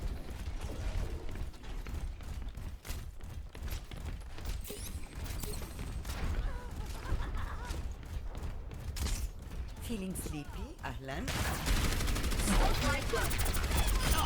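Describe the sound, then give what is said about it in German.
Rapid bursts of video game gunfire crackle repeatedly throughout, mixed with clanking mechanical effects and muffled voices, growing louder and denser toward the end. “Mit diesem, man kann die Schüsse ja schon quasi dahin lenken, bevor man die Gegner gleich hinzieht.”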